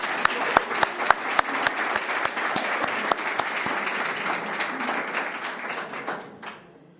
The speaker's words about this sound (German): Und ich denke, das wäre mal ein Applaus wert an das Vorbereitungsteam.